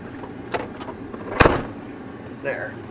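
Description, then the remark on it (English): A car door clicks open, then shuts with one solid thud as the driver pulls over to close it. A low vehicle rumble runs underneath, and a short rustle follows near the end. “Man, my door's open.”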